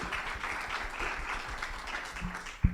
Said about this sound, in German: Hurra! Einmal großen Applaus an alle, die hier sind. Und einen gleich noch für die Zuschauerinnen im Stream.